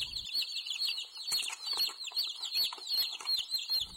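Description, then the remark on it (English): Dozens of live baby chicks of all colors peep constantly at a hardware or agricultural supply store in Iowa, their high, shrill calls overlapping into a dense, busy chorus that carries on without pause. “It's the time of year when hardware stores and agricultural supply companies share space among the lawnmowers and grass seed with live baby chickens.”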